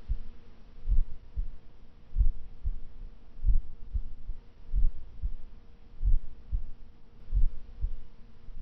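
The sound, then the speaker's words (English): A steady heartbeat thumps in low, muffled pairs, repeating at a calm, even rhythm, soft with a faint hum underneath and no talking. “I want you to listen to my voice and listen to my heartbeat.”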